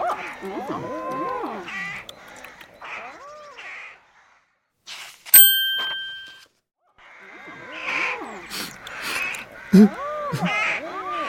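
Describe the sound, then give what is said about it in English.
A flock of crows caws loudly and repeatedly, their harsh calls overlapping in two busy bursts, with a brief pause between them broken by a single bright ringing chime. “But oh dear! The birds are eating the strawberries.”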